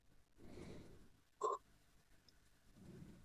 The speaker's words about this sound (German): So, gegähnt und es kann losgehen.